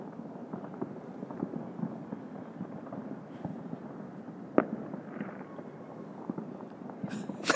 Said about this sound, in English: 59, so a minute to go. They sound like they're building to it, don't they? That's a lot of fireworks going on.